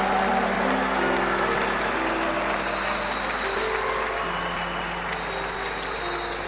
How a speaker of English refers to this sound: Church, let's clap our hands excitedly, celebrating Jesus. Keep clapping. Celebrate my Jesus, the soul winner, the one who saves. Do you see what God is doing this morning again? And I thought you are excited. You are clapping so much for Him.